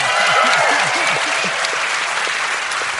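Audience applause at a live show fills the whole stretch, a steady dense wash of clapping with a few cheers or whoops rising briefly near the start, no speech over it.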